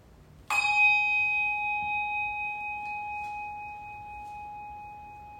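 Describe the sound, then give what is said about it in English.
A single bell is struck once to begin a worship service, giving a bright metallic strike followed by a clear, sustained ringing tone that slowly fades over several seconds. “I'm gonna ring a bell and we'll have a brief moment of quiet and our worship will begin.”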